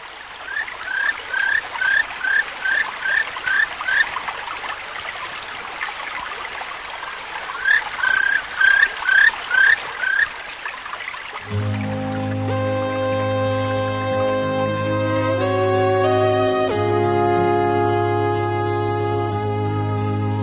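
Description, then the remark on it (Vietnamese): A babbling forest stream rushes steadily while a bird chirps in quick repeated bursts nearby; about halfway through, soft sustained music takes over from the outdoor sounds. “Ra đến bìa rừng, nghe tiếng chim hót líu lo, suối chảy róc rách, cô đã chạy tọt vào rừng.”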